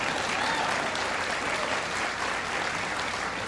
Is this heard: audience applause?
yes